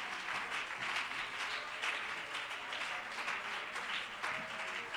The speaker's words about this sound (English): Clap your hands to the Lord, please. Would you do that?